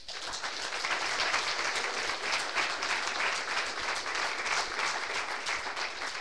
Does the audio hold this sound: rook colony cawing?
no